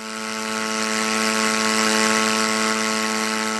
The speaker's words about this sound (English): That sound recorded from a UA flight at JBAIR earlier this month.